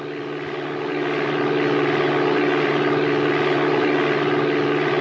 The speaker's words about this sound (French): La simulation d'un avion dans Flight Simulator.